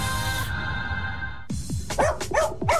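A dog barks in a quick burst of about five or six sharp barks, coming in after a steady tonal hum fades out.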